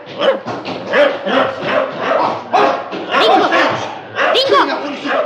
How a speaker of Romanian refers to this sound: Îl cunoști cumva pe câinele ăsta?